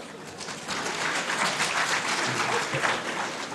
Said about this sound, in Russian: Вначале были аплодисменты. Я чувствую, что пора завязывать, как бы. Будем воспринимать последние аплодисменты как это самое, как приближение к финалу.